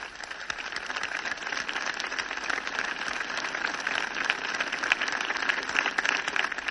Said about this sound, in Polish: Bardzo dobrze, żeście oklaskali słowa sługi Bożego. Jest to jak gdyby ostatni argument do tej beatyfikacji, jaka ma się odbyć w niedzielę w Warszawie.